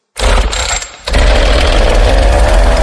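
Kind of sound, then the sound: tool, chainsaw starting and revving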